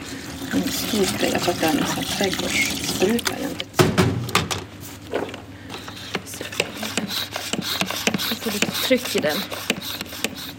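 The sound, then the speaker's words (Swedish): Raw umber paint is poured into a spray bottle, a steady liquid trickle and glugging, with small clicks and splashes, and a murmuring voice in the first few seconds. “Det häller jag ner i en spray.”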